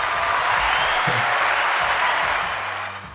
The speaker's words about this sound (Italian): è così egocentrico dal momento che il ragazzo è entrato ad economia alla Bocconi, ma non ha voluto dirlo, per cui applausi per lui.